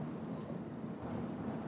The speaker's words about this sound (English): Lovely rhythmic sound. The trains coming in to Charing Cross, slowly decreasing their speed, and that thump thump resonating through the bridge and just ruining it.